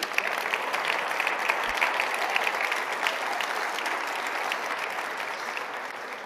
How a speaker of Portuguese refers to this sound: Vocês não aplaudiram?